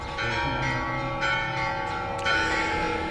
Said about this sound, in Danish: Kirkeklokkerne her ved katedralen i Santiago er ved at varme op, og om en lille times tid, så skal vi til messe.